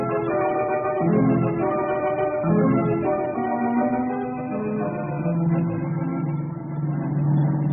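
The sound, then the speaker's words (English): A car engine roars steadily during a car chase, its pitch climbing and dipping repeatedly as it revs hard, with no voices over it. “Tasso and Harper are certainly giving their car all it can take.”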